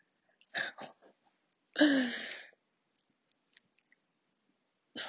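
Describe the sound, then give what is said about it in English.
Lubricant squirted from a squeeze bottle onto a dildo: a couple of short wet clicks, then a longer sputtering squelch with a falling gurgly tone, followed by faint ticks and another brief wet burst. “I have my bottle of lube, and I'm just gonna pour some on there.”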